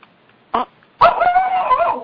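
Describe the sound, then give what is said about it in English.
A female dog, upset during its owner's session, lets out a short sharp bark, then a longer, whining, yelping bark that trails off, loud with no talking over it. “Yeah, the dog just gets all upset.”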